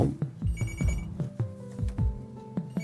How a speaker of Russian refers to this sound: Маємо ще один телефонний дзвінок.